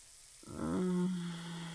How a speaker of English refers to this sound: God, that feels good. That hot water running over my body.